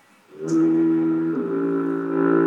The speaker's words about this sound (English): I have a bell. I have a foghorn.